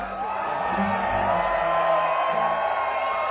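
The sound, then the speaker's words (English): A festival crowd screams and yells together as the introduction to a song, in a sustained, loud roar lasting a few seconds, dense and continuous with scattered whoops rising above the mass of voices. “Maybe if we all scream together.”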